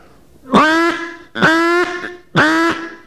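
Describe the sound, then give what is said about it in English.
Three loud, harsh duck alarm calls ring out in a steady rhythm, each a short, high, buzzy quack separated by brief pauses, with no talking. “And it'll be a single call. It'll be a high call. And it's definitely an alarm call.”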